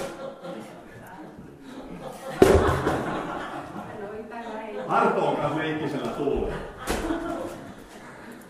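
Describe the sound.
A few sharp, hollow knocks land at irregular moments as an empty hard box is tossed and caught, with people talking and chuckling throughout.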